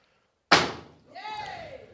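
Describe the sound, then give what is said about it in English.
A single loud, sharp stomp lands on a sealed Jiffy bag containing a light bulb, placed on the floor, with a crunching thud that quickly decays, followed by a brief voice rising and falling in pitch. “All right, now I'd like you to jump upon the said bag, please.”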